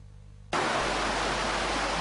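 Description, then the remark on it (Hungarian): After a half-second of low rumble, a loud, steady roar of rushing water bursts in and continues unbroken from a flooded stream at dawn in the Diósgyőr district of Miskolc, with no voices. “A dübörgő patak hangjára ébredtek hajnalban Miskolcon a Diósgyőri városrészen lakók.”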